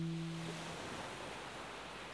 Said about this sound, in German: Die Wellen reichen jetzt wieder bis zu deinem Körper. Er wird umspült vom tragenden, warmen Wasser des Meeres.